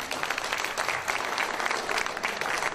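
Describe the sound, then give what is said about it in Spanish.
Loud, sustained audience applause: a dense wash of many hands clapping at once, steady and crackling throughout with no pauses and no voices standing out. “¡Fuertes aplausos!”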